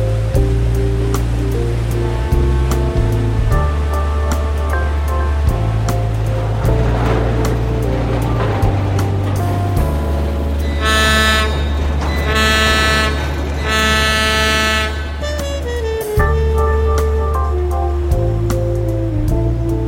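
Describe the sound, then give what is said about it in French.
A large paddle steamer named Le Suisse, departing, sounds its deep, sustained horn in long blasts, with bursts of hissing steam and the steady churn of water underneath. “on vient de voir partir un énorme vapeur, je crois que ça s'appelle comme ça, oui. Un grand bateau à roues qui s'appelle le Suisse.”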